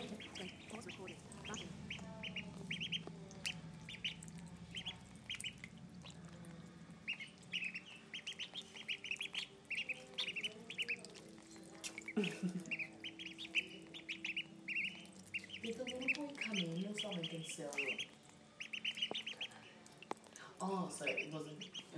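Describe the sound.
A hungry female duck quacks and squawks insistently while being fed, calling over and over in rapid, raspy bursts while people talk.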